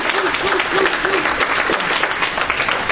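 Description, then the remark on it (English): An audience claps steadily for the full stretch, a dense, even patter of many hands at a strong, consistent level, with a few faint voices mixed in early on. “I really, really just appreciate the work that she's done for CCB, particularly for this association, and I'd like you guys to give her a round of applause, because I know she works very hard.”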